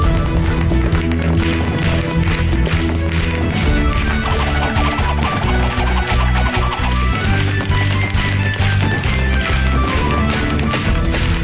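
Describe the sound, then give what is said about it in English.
Loud, rapid stomping dance steps of a River Stomp routine for a talent contest hammer out a steady rhythm over lively, driving music, many feet striking together for the whole stretch without pause. “We're doing River Stomp.”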